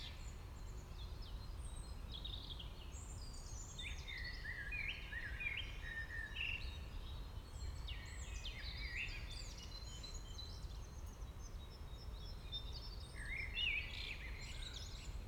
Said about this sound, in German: Genieße die Geräusche, die du hörst, das Vogelgezwitscher, vielleicht einen leichten Wind, eine leichte Brise, die über das Mikrofon aufgenommen wird.